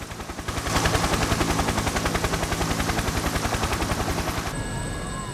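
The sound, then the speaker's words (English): A helicopter's rotor blades chop in a fast, steady thudding rhythm at the scene of a sea rescue. The sound is loud and lasts several seconds before it thins out into a steadier hum with faint tones. “the helicopter was already on the scene. The whirring motor of the rotary blades.”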